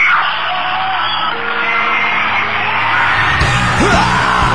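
A short, sharp shriek cuts through a dense, loud crowd din, with other yells and whoops rising around it near the end.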